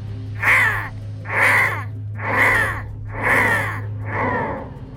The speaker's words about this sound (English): the crow released a blood-curdling caw, caw, caw, caw, nearly as loud as the gunshots themselves.